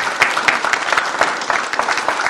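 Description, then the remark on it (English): A crowd in a public gallery applauds steadily, many hands clapping in a dense, continuous patter with sharp individual claps standing out, lively throughout, with no voices heard. “I suppose the clap, we said no clapping from the galleria, but we'll let that one go.”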